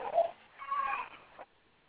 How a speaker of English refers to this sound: I hear some babies crying and put a tin in that baby mouth.